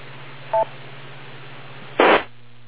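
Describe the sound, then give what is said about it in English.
A short, clear electronic beep with a dual-tone quality sounds once over a steady low hum, followed a moment later by a louder, brief burst of hissy static. “I'll wait for the beep.”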